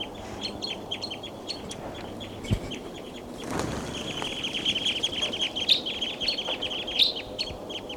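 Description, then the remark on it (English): A flock of seven perched birds calls constantly in dense, high-pitched chirps and tweets, with a couple of brief whooshing bursts midway that sound like wings as the birds take off. “The flock is still around here. They're all perched on top of and they're calling a lot.”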